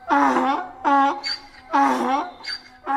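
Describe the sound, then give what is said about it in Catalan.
A donkey brays loudly, a rhythmic hee-haw repeated about three times, with harsh low honks alternating with thinner, higher squeals. “L'ase va començar a bramar.”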